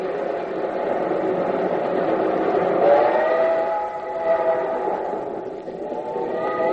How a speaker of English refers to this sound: Come on, you old iron horse. Run! There go the cars out the other end. I'm gaining on them. Roll, you engine, roll.